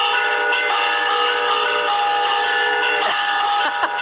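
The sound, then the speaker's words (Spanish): Church bells ring out in a steady, continuous peal, the village's morning greeting toll rung when the church opened, their overlapping metallic tones blending into a rich, sustained wash of sound, fairly loud and with no voices present. “Entonces se llamaba el toque de buenos días, que las campanas como que saludaban al pueblo, ¿no?”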